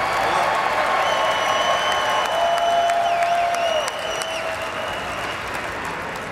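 A large crowd claps and cheers steadily, a dense roar of applause with high whistles and shouts rising above it, holding loud throughout and easing only slightly near the end.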